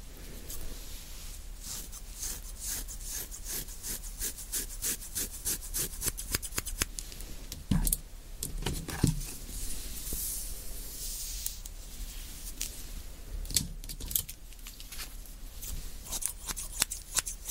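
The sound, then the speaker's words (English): Crisp snips of professional scissors repeat in quick rhythmic bursts, with short pauses and some rubbing, rustling handling noise between cuts. No voices. “Professional scissors, and I don't know which one is better, so which one is mine.”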